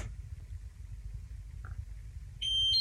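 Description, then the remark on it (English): A Miele washing machine, set to a 40-degree cotton wash, gives a single steady electronic beep signalling that its door is shut, a bright, high-pitched tone near the end over a low, continuous rumbling hum. No one speaks. “That noise indicates that the door is shut and I can begin to use the app on my smartphone.”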